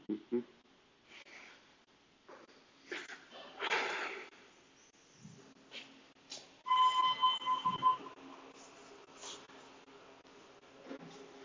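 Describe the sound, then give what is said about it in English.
An elevator running on its way up to the roof: a steady low mechanical hum with scattered whooshing and rattling bursts, and a bright, pulsing electronic tone sounding for about a second midway through. “That's the sound of the elevator.”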